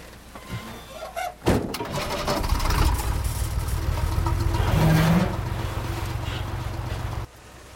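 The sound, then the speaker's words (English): A car door thuds shut as a man gets behind the wheel outside a convent, then an old limousine's engine turns over and settles into a steady, low rumble, running until it cuts off near the end. “With a dispassionate glance at the convent, he gets behind the wheel.”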